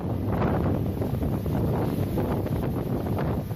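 Steady, loud wind roars with constant buffeting over a broad rushing wash of the open sea on the Indian Ocean, with no voices, its level barely changing from start to end.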